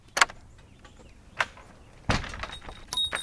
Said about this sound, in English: You open the old door of the latch, and you immediately walk in the barn.